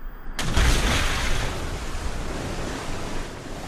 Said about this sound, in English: The helicopter hovers overhead as ripples subside and the tail of the car sinks into the deep water.